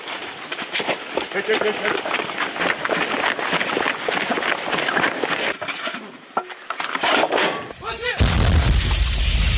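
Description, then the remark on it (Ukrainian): Amid noisy outdoor bustle and indistinct voices, Ukrainian soldiers fire an artillery cannon at a target in the direction of occupied Pisky; near the end a single loud blast roars through the remaining seconds. “Українські військовослужбовці виявили ціль в напрямку окупованих пісок і ведуть вогонь із гармати.”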